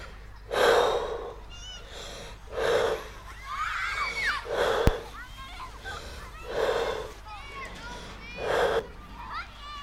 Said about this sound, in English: We are going to breathe in. Okay, breathe in. Breathe out. Good. Keep breathing. Focus on your breathing until you feel calm.